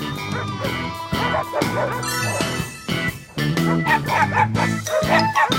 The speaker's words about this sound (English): As the morning sun peeks through the dark, doggone dogs begin to bark.